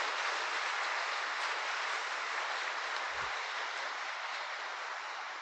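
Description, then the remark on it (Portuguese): A church audience applauds God together in a dense, steady wash of applause that holds at an even, loud level for several seconds, with no voices rising above it. “Salva de palmas a Deus, que é a causa da nossa alegria.”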